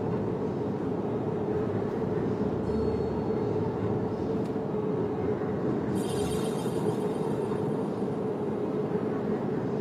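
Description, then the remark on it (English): A steady, heavy rumble of a train running on the tracks right beside a freeway, alongside road traffic, continuous and fairly loud throughout, with a brief higher hiss partway through and no voices. “Train next to me on the freeway here, right next to the train tracks.”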